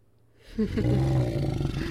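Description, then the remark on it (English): A deep, rumbling cat-like roar from a female creature rises after a brief quiet start and holds loud for over a second, with a gravelly, sustained growling texture and no talking. “She sounds a bit like a cat, genuinely.”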